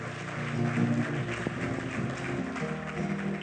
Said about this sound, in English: If you prayed that prayer, let's give him a big clap offering.